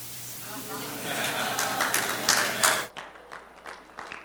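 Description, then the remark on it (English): A crowd of adults claps in a dense, steady burst of applause for about three seconds, then it cuts off abruptly, leaving quieter room noise and a few scattered claps. “Huh, it's the adults are clapping and the kids are going, oh.”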